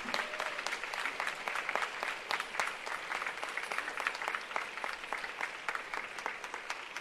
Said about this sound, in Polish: Moi kochani, wielkie, serdeczne Bóg zapłać dla tego zespołu. Wielkie brawa, słuchajcie, dla nich, tak?